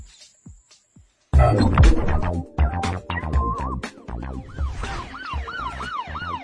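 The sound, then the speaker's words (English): A police siren wails in quick, repeated rising and falling sweeps, emerging over a loud, clattering rumble that begins abruptly after a brief quiet opening. “Do you hear that? It sounds like a police siren.”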